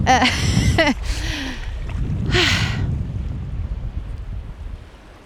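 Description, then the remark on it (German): Waves wash in on a beach with a broad rushing swell, continuous surf noise and wind buffeting the microphone; a few brief vocal sounds appear near the start. “Noch eine, die zusammenhängt, aber da kommt die Welle.”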